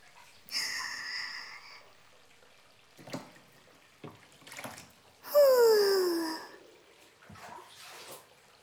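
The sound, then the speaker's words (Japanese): Hot water sloshes around in a washbasin in several separate swishing bursts, moderately loud, with one longer, stronger slosh toward the end. No one speaks. “動かしすぎちゃったけ、洗面器ずいぶんお湯が少なくなっちゃったとね。”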